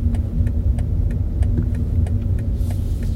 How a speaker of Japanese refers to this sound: 面白いですよね。 面白い。なんかエンジン音でもサウンドで出すのかなと思ったら、 あ、 違うね。 ちょっとやっぱモーターっぽい音です ね、 そうね、 エンジンだけではなく。